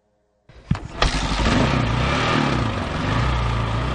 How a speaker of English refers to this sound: The bike is fighting up the steep logging road in the Sinfarosa Canyon of the Sierra Madre. It's raining and the trail is rutted and swampy.